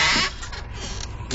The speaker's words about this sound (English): Then they hear Timmy's footsteps approaching from a wooden back porch. Cue footsteps. Creaking screen door opens. Sound effects, dude.